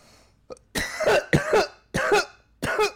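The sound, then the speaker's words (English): Someone coughs hard four times in a row after a big hit from a small vape pen, loud, each a harsh, raspy hack with a short gasp between, after a faint click. No talking. “I'm sorry I'm coughing like that, but did you see it?”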